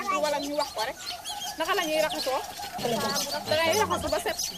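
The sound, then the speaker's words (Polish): A dense, noisy chorus of hundreds of weaver birds chattering and singing in the branches of a large, spreading tree in Senegal, where they have built nests, many overlapping chirps and trills filling the air continuously, loud. “A nad nami piękne, rozłożyste drzewo, w którego gałęziach setki wikłaczy. Tak się nazywają te ptaki, które tak pięknie śpiewają.”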